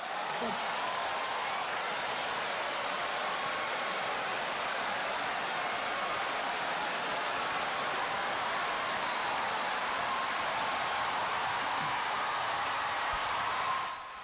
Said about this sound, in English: And as you can hear, there's enormous, enormous applause going on, and I was praying to God that they would do a cutaway during the entire applause break, which is still kind of going on.